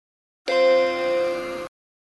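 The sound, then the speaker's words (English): A single sustained electronic beep lasting just over a second, a steady, bright, buzzy tone rich in overtones that starts and cuts off abruptly, with no talking around it. It is an audio tour cue telling listeners to press pause on their MP3 player. “When you hear a beep, press pause on your MP3 player.”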